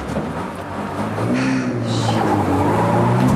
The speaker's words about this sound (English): They watch from a car as Chris is bundled into a van and driven off.